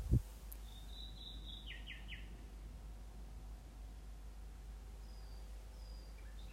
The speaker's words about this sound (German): Mein Bus steht auf dem Parkplatz der ehemaligen Schule meiner Tochter in Alt-Lusheim. Zwei Nachtigallen trällern um die Wette. Ich könnte ihnen Stunden zuhören.